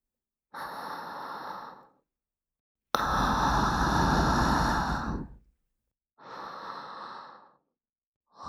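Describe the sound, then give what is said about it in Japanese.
A series of airy breath exhales separated by brief silences, the second a longer, louder, forceful huff, followed by softer sighing breaths; the exhales serve as a penalty cue in a game. “左右関係なく、手を動かしてる最中にこの吐息の爆弾が聞こえたら、ペナルティが発動。”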